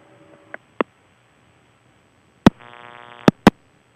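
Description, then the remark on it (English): An animal chewing on a telephone handset while trying to speak into it: a few sharp clicks and knocks at uneven intervals, with a brief buzzy tone sounding between the last clatters. No one speaks. “Ah, you know, he'll learn it after he, you know, learns to stop chewing on the phone while he's trying to speak with it.”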